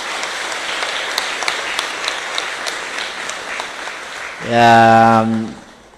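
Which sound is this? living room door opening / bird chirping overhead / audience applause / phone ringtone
audience applause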